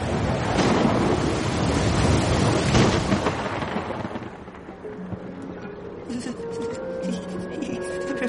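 A loud, rumbling thunderstorm, during which Sammy the turtle stays on top of a refrigerator, roars for several seconds, a dense wash of crashing noise that gradually fades and gives way to softer, sustained tones.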